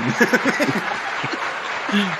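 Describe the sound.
An applause sound effect: a steady wash of clapping hands, like a crowd applauding, fills the whole clip at a fairly loud level, with bursts of voices and laughter mixed in underneath.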